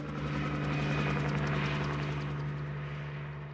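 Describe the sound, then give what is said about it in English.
A helicopter, just a few feet off the ground during a wild horse roundup, drones loudly, its rotor beating in a steady pulse with a strong low engine hum, gradually fading slightly as it turns and flies away to find another herd. “Seven wild horses are captured as the helicopter, now just a few feet off the ground, turns and flies away to find another herd.”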